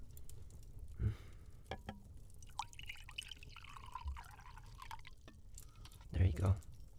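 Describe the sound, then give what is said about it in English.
Water pours into a glass for a few seconds, for someone to swallow a pill with, its trickling tone rising as the glass fills. Soft knocks and handling sounds come just before and after. “I'll get you some water to swallow it.”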